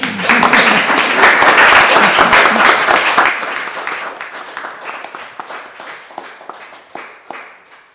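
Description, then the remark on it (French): An audience bursts into dense, loud applause for about three seconds, then it thins out into scattered individual claps that trail off toward the end. “On va peut-être vous applaudir.”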